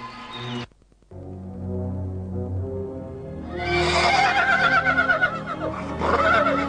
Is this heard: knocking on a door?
no